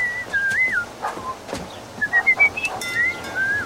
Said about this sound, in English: Harold strides up a walk and rings the bell.